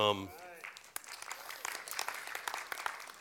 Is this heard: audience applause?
yes